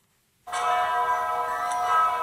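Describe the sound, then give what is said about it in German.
The large bells of the cathedral in Zagreb, Croatia, ring out loudly after a moment of silence, a dense, sustained wash of overlapping metallic tones that hums on steadily without fading. “So klingen die Glocken der mächtigen Kathedrale in Zagreb.”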